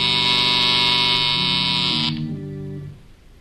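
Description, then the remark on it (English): A loud, steady electric buzzer in an office at night drones for about two seconds with a harsh, rasping tone, then cuts off, leaving a lower humming tone that fades away. “K-12 watches those lights intently some moments before a buzzer sounds.”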